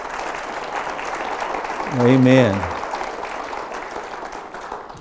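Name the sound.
audience clapping hands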